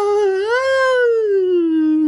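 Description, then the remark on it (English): Wind howls through trees during a rainstorm: a single sustained howl, high and shrill, rising then slowly sinking in pitch over about two seconds, with a voice-like wailing tone and no talking. “The howling grew high and shrill, almost like a human voice. A human wail.”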